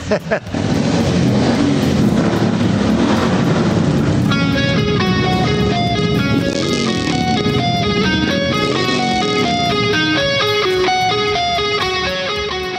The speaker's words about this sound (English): But here's a clip of him at the White House while bikers drove in circles to music blasting.